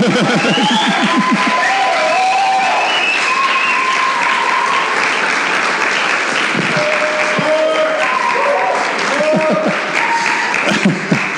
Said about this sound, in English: You don't know him yet, but I'd like you to give him a round of applause first.